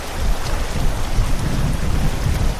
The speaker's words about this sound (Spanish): Ahora sigue lloviendo en la provincia, una lluvia que ha dejado una inundación que los vecinos no veían desde hace casi un siglo.